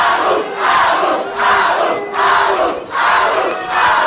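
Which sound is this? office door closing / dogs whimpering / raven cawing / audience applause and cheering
audience applause and cheering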